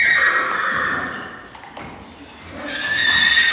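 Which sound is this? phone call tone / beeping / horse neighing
horse neighing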